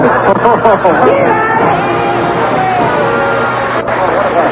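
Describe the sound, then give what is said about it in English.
A loud, dense crowd chatters continuously, many overlapping voices blending into a steady babble with occasional raised shouts and whoops rising above the din. “What a crowd, eh?”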